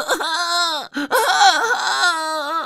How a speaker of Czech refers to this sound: Když přestali miminko třeba jen na minutu napájet mlékem, rozječilo se, divně zbořilo dům.